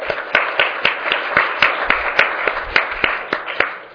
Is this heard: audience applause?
yes